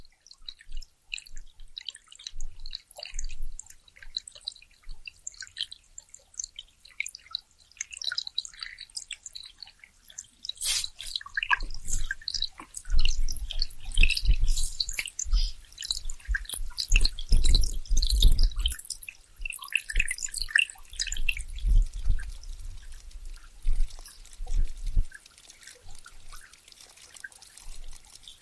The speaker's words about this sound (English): Water sounds. Yeah, there's some water sounds.